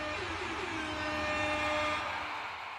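A soft, steady blast from a quiet air horn, about one sixth as loud as a normal one, sounded for Jobs Friday, holds one pitched tone over a rushing hiss for nearly three seconds, easing off slightly at the end, with no voices.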